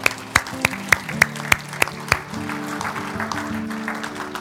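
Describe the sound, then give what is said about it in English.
An audience claps for those who raised their hands, starting with sharp, evenly spaced claps that build into a steady wash of mixed applause, with a low sustained musical tone beneath. “Can we clap for those that raise their hand?”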